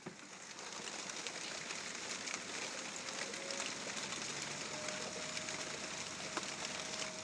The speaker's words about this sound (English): Yep, the rain is back and a road sweeper outside. How can you sweep roads when it's raining?